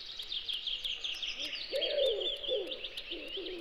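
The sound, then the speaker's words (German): A dense chorus of birds sings in a forest, chirping and trilling continuously, with high twittering calls layered over lower cooing notes. “Wenn ich die Brille absetze und die Augen schließe, höre ich die Vögel singen, rieche das Laub und spüre genau, wie warm der Stein in der Sonne ist.”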